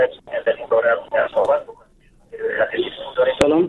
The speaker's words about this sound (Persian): سلام شنونده گرامی، صدای رادیوی تان را لطفاً خاموش بسازین، بعدن صحبت بکنین.